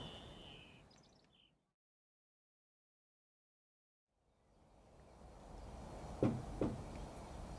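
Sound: knocking on a door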